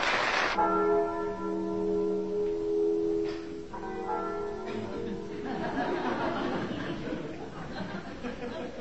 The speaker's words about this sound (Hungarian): Soha életemben nem hallottam ilyen gyönyörű harangszót.